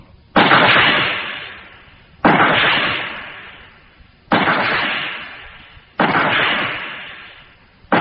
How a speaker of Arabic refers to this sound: خمس طلقات من مدفع العبودية.